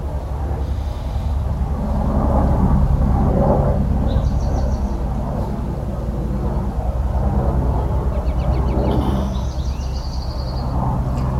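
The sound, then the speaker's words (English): A deep, steady roar of an airplane passing overhead fills the whole recording, with a few faint bird chirps sounding above the rumble. “Big as a plane that is passing by is it in our consciousness or is it separate?”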